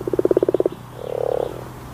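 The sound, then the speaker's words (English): A common frog croaks: a quick run of about ten rhythmic pulses, then a short pause and a softer, drawn-out purring croak. No voices are heard. “That's the unmistakable sound of the common frog.”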